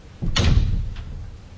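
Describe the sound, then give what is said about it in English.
A door swings shut with a single solid, loud thud, followed by a faint click a moment later as it settles. No one speaks. “I think we need to close the door.”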